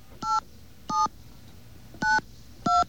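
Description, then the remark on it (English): Four short telephone keypad tones beep in an uneven sequence as a special 800 number is dialed, each a crisp dual-pitched burst, clear with quiet gaps between presses and no voices. “Let's call that special 800 number that Rebel was so kind to bring down to the studio.”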